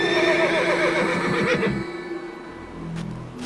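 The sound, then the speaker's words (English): A horse lets out a loud whinny with a quavering, shaky pitch, then it trails off into a low snort and quieter rumbling breath. “Take Midoro with you. He's the best horse in my entire army.”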